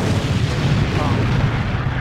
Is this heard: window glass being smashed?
no